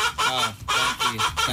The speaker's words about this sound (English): Oh, great. So let's meet this incredibly talented chicken.